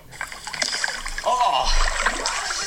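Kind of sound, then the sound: nature, water splashing and trickling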